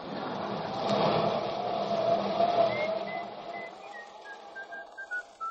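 A person on a raft drifting at sea whistles a short tune of clipped, evenly spaced notes that step gradually downward, rising out of a steady rumbling background noise in the second half.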